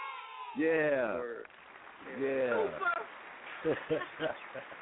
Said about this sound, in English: That was a warm reception. Yo, I need the applause one more time. One more time.